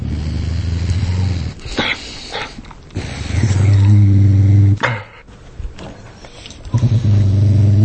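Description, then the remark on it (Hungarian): A dog growls low and menacingly while guarding a bone from another dog, the rumbling coming in several sustained, loud bursts separated by brief pauses and sharp breaths, with no one speaking. “Volt, amikor egy csontot őrzött egy másik kutyával szemben.”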